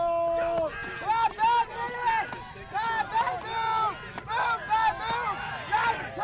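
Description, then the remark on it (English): The Finger Lakes Community College woodsmen team cheers its teammates in the horizontal chop, on to a second-place finish, in rapid, repeated bursts of loud, excited voices over a steady crowd murmur, with faint sharp knocks that could be axe strikes underneath. “Finger Lakes Community College woodsmen cheer their teammates on to a second-place finish in the horizontal chop.”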